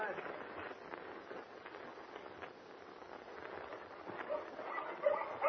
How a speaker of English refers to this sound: Gosh, I see a little puppy's barking.